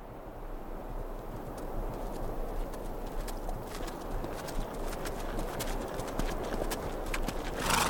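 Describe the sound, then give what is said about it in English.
A horse's hooves clop steadily in a plodding rhythm as it trudges through the biting cold of a December day, a continuous run of dull thuds with sharper clicks scattered throughout, at moderate loudness with no voices. “24-year-old Charlie Goodnight huddled inside his coat as he and his horse trudged through the biting cold of a December day in 1860.”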